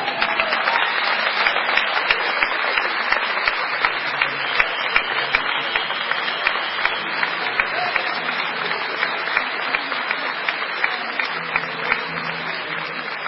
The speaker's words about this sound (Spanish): Señoras y señores, pido un fuerte aplauso para recibir a nuestro poeta del chamamé